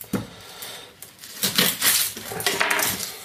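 Repeated dull thuds from a wooden meat mallet pounding meat for rouladen on a board, coming in an uneven rhythm of fairly loud knocks with a faint clatter between them.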